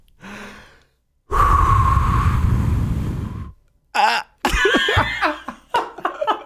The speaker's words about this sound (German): Also du sollst erst alles, was du an Luft hast, ausatmen und dann versuchen zu schreien. Moment. Ich gebe einen Tipp ab, es wird sehr krächzend sein.